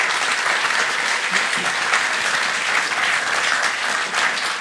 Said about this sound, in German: Meine Karriere wäre nicht halb so gut geworden ohne meine Frau, die immer irgendwo an meiner Seite stand und mir auch das alles ermöglicht hat. Können wir auch mal Applaus machen?